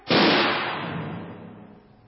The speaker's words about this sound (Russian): Ох, вот это выпалил. Пищаль разорвало на мелкие кусочки. Эх ты, пищаль моя заговоренная.